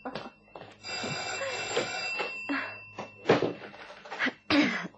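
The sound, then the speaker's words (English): A telephone rings steadily for several seconds, a bright, sustained metallic trill, with a few soft knocks and bumps scattered underneath it. “Don't get too chatty on that phone.”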